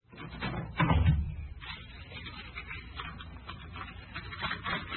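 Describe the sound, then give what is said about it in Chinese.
A wooden door is opened to let two visitors in, with a heavy knock and creak near the start, followed by quieter shuffling and handling sounds. “好，我就来开门啊。”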